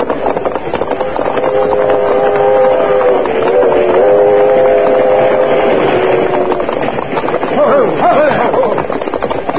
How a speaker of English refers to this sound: By the time Dude and Bronk drew rein, the train had passed.